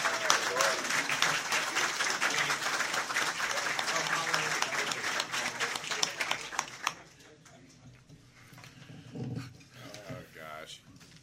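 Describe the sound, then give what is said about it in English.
An audience at a League of Women Voters candidate debate breaks into loud, dense applause as the candidates are invited to come up. The applause holds steady for several seconds, then cuts off, leaving quieter murmuring and a few voices. “No hollering, hooting, or applause during the debate, please. But you can do that now as we invite the candidates to come up, Jim Suttle and Gene Sutt.”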